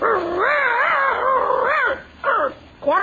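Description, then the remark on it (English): A man's voice imitates a dog called Hector, starting with a long, warbling howl-like whine, then two short bark-like yips after a brief pause, fairly loud with no other sounds. “You know, I think we should have got a real dog for this part.”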